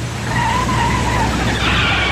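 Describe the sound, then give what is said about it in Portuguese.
Tires squeal sharply as a car brakes hard, a shrill whining screech rising over a low engine rumble and lasting the full couple of seconds, loud. “Chefe está freando.”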